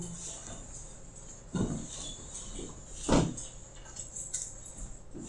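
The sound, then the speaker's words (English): Chairs being shuffled and turned back around to face the front, with a couple of louder scrapes and knocks standing out against a steady murmur of smaller shifting noises. “Okay, chairs face front.”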